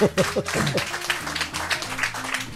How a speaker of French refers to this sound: L'avant-première pour le Blues Café, ouais. Ça s'applaudit quand même. Ah ouais, c'est pas mal déjà.